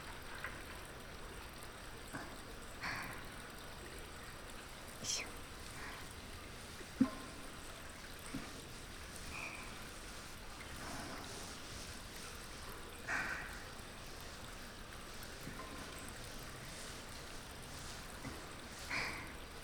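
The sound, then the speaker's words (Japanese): Quiet wet squishing of shampoo foam being worked into a thick lather for washing hair, a steady soft crackle with occasional sharper pops and squelches, and no voices. “まずはたくさん泡を泡立てて”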